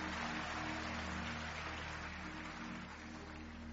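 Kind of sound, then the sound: crowd, audience applauding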